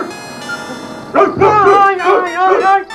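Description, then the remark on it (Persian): A person imitates the barking of the story dog Hapu Kumar with a few loud, voiced yaps in quick succession, after a brief stretch of quieter background. “اما بعد از چند دقیقه دوباره هاپو کومار شروع به هاپ هاپ میکنه.”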